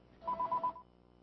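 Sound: telephone ringing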